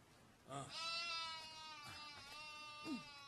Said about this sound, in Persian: پیرزن گوسفندی را می دوشد.